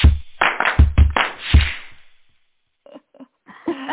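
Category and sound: human body sound, hand clap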